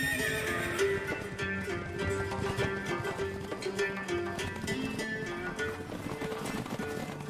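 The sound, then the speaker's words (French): Horses in the steppes of Mongolia whinny repeatedly over a steady clatter of hooves clip-clopping as they are led to a set point, a busy, fairly loud scene that continues without pause and with no voices. “Il nous faudra au moins 4 heures pour amener les chevaux au point voulu.”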